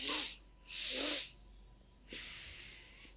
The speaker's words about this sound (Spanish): ¿Por qué se oye diferente tu respiración que la mía? O sea, se oye profunda, se oye en control.